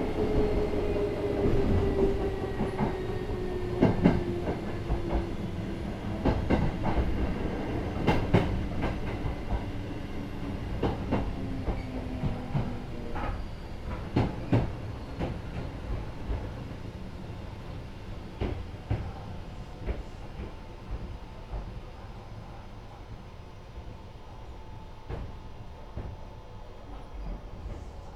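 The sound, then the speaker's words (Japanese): A metro train arriving at Panie station (station number E8) rumbles steadily along the track, with a low droning hum, a slowly falling tonal whine, and scattered rattles and clicks from the carriage. No voices are heard. “This is Panie. Station number E8. The doors on the left side will open.”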